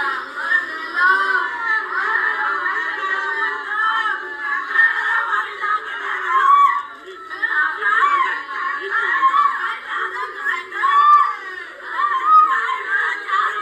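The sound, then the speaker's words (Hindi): Several voices wail and sob together without a break, their rising and falling cries overlapping in a loud chorus of grief that swells and eases over the whole stretch; mourners at the home of a young man killed in a police-crowd clash in the Ramganj area of Jaipur. “आदिल का शव तब से अस्पताल में है और उसके घर पर चीखो पुकार मची हुई है।”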